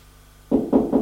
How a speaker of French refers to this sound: On frappe à la porte.